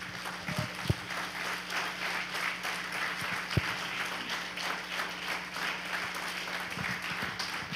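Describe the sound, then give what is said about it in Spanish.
An audience applauds God during a church sermon, steadily: a dense wash of many hands clapping at once with a few sharper individual claps standing out, sustained at an even loudness throughout. “Dale un aplauso a Dios.”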